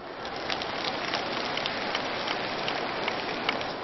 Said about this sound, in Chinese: 稍微讲了深一点点，鼓掌的声音就少了。